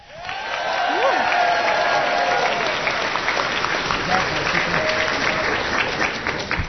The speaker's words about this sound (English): Thank you for that face-saving round of applause while I get back to my buttons.